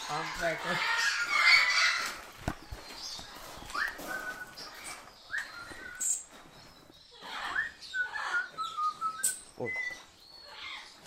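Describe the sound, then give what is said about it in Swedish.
Several caged birds squawk, chirp and whistle in a busy, overlapping chorus, with sharp calls bursting out irregularly throughout. “Så att de stör inte så där väldigt länge på kvällen.”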